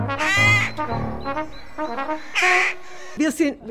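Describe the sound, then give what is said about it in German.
Many rooks caw repeatedly in harsh, overlapping bursts in the town of Laubheim, Germany, several birds calling together with brief pauses between the loud, raspy calls. “Wir sind entrüstet über den Lärm der Krähen, über die Menge der Krähen.”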